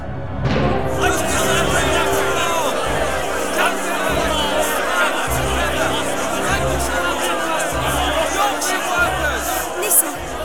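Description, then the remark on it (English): Dense chatter of a protesting crowd fills the whole stretch, a steady roar of many overlapping voices, with low thumping pulses and occasional sharp knocks beneath the agitated babble. “They're protesting, that's all.”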